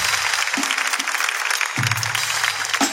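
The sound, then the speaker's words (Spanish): An audience applauds steadily for about three seconds, a dense, even patter of many clapping hands, with a few faint low vocal cheers mixed in beneath it. “Un aplauso”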